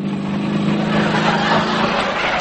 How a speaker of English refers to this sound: Sydney's coming to pick me up on his motorbike.